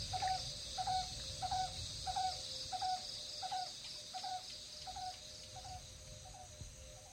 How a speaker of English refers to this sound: And then all the birds start rehearsals.